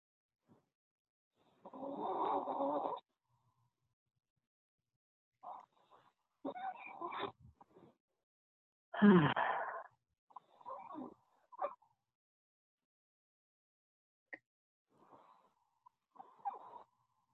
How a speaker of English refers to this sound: I hear some deep breathing in the background, if anybody else would like to put words to that.